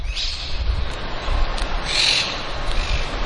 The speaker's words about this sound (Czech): Při příchodu do areálu koleje k úctyhodné budově obklopené krásnou zahradou překryje ruch velkoměsta křik všudy přítomných papoušků.